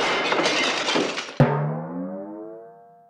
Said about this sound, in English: Get out of my house. You've broken all my plates. Thanks. I've had a smashing time.